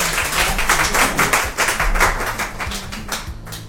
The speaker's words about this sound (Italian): E qui ci sta l'applauso, eh?